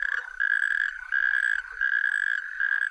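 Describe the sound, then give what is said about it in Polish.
Rattling mating calls of male frogs calling together in a group during the breeding season, in a steady series of trilled bursts, each lasting about half a second with very short breaks between, bright and fairly loud with no voices. “Godujące gromadnie samce odzywają się przerywanymi na bardzo krótko seriami terkoczących głosów.”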